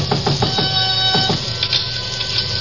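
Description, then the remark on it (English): A run of about six quick, sharp knocks on Shin Yoke's back door in Chinatown, fairly loud, over a steady low hum that carries on alone after the knocking stops. “Still in front of me when I knocked again at Shin Yoke's back door.”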